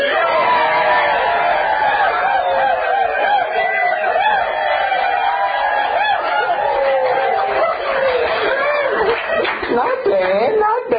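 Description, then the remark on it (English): A large crowd shouts and cheers together in one loud, sustained roar, many voices rising and wavering at once, filling the whole stretch without a break. “I just do one cheer.”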